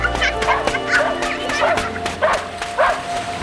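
A small dog barks about five times in a quick, uneven series as it runs splashing along the edge of a beach, the sharp yappy barks fairly loud over a faint steady background hum.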